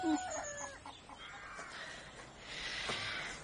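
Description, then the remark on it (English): Mrs. Collins's chickens cluck in a busy farmyard in Kent, with a rooster crowing among them, all at moderate volume, with no one speaking. “I shall have to leave you to your chickens, Mrs.”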